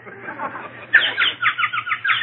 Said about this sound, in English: Ah, listen to the birdies.